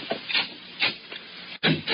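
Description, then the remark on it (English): A door off a hallway being opened: a series of dry wooden scrapes and rubbing creaks in uneven bursts, a brief silent break, then a louder grinding rasp. No one speaks. “Open the other door”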